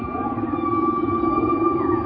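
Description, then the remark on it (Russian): Whale calls recorded with a microphone in the fjords drift through a winter sea: sustained, steady tonal moans holding a level pitch over a low rumbling underwater hiss, continuous and fairly loud with no talking. “Я слышал, как киты плывут в зимнем море.”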